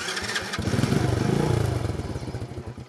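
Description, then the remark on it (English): A Chinese motorcycle's engine sputters to life, catching after a brief clatter and settling into a loud, steady, rapidly pulsing idle with a slight rev in the middle. “The biggest change, Chinese motorcycles like this one, that can be had for $500”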